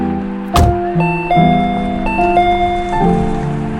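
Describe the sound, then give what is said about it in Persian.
A doorbell rings with a sustained electronic chime melody of several steady notes stepping in pitch, loud, after a sharp click as the button is pressed, with no one talking. “رسیدیم، یادش رو زنگ در رو بزن ماشین رو پارک کنم بیا.”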